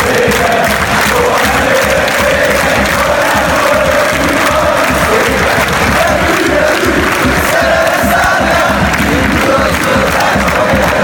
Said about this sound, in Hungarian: Hát valahogy így szurkolt a 20 000 magyar tegnap este Bordóban az osztrákok elleni csodameccsen.